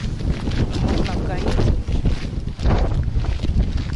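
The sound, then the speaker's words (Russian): Strong, gusty wind buffets the microphone outdoors on a hiking trail, a loud continuous low rumble that swells and dips, with a brief lull near the middle. “Я не знаю, я это место не очень люблю. Во-первых, потому что ветер”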